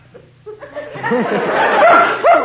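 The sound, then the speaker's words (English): A man's voice mimics the bay of Bugle Ann, a hunting hound dog: a run of wavering, rising-and-falling yelps and howls that starts soft and swells louder, with some laughter mixed in. “That's the voice of Bugle Ann. Was a hound dog, a hunting dog.”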